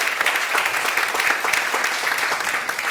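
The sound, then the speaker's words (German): Steady applause from an audience, a dense patter of many hands clapping at even, fairly loud level throughout, with no voices over it. “Okay, vielen Dank, nicht schlecht ausgerechnet dafür, dass du keine Konkurrenzbeobachtung machst, hat das einen Applaus verdient, weil du hast wirklich schnell und alles konkret getroffen.”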